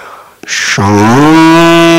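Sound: cow mooing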